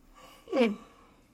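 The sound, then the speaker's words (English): A single brief, breathy fake yawn from one person, clear, rising then falling in a short drawn-out exhale with a faint voiced tone. “Comment if you yawned when I fake yawned.”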